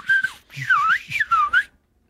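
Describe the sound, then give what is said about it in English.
A person whistles an imitation of the beeps of the Star Wars robot R2-D2: a quick run of warbling, swooping tones that dip and rise in pitch, about 1.7 seconds long, then silence. “No, just when you did the beep, that was what was the R2-D2.”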